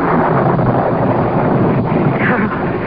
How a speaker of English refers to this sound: It was a black, stormy night